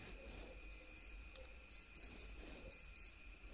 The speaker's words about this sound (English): It's time to learn how to turn off an alarm clock.